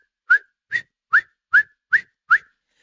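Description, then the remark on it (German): A voice imitates a marmot's alarm whistle with six short, sharp, high whistles repeated at a steady quick rhythm, loud, with no talking. “Und dann habe ich auf einmal das Pfeifen gehört vor dem Murmeltier.”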